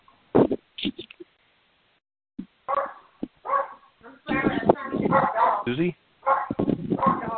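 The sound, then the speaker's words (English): A dog barks in the background of a conference call during a roll-call vote, over a muffled, band-limited call line: a few sharp barks at first, then more yaps mixed with people talking. “Whoever has a dog barking in the background, could you mute yourself, please?”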